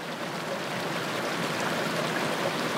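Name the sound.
flowing stream water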